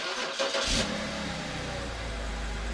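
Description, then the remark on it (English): A car engine cranks and catches with a brief rev, then settles into a steady low idle rumble, fairly loud, with no voices. “If you're the sort of person who likes to start up your car and then let it sit for a few minutes before driving, listen up.”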